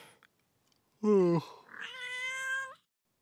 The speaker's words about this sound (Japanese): なんや今度は。猫か。喧嘩ならよそでやってくれ。今度はな、お願い、静かに寝かしてくれ。